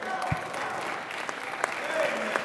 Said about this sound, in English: If you believe, what if you believe the same thing I believe, y'all just give the Lord a hand clap of praise.